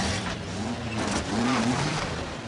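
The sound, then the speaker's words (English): A bus engine revs and climbs in pitch as it pulls away, a steady loud rumble with a rising drone over broad road noise. “From the moment Nicholson escapes, climbs over the fence, shimmies down the tree, steals the bus.”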